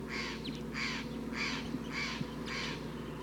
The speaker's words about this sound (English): Recording, a lot of crossbills are here now. Big flock, 1, 2, 3, 4, 5, 6, 7, 8, 9, 10.